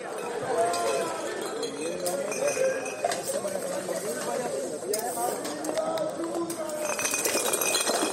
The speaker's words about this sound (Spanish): Sonido del vidrio, cristales, de las miles de botellas con las que amanecía Santander, una de las imágenes que ha dejado el descontrol festivo y turístico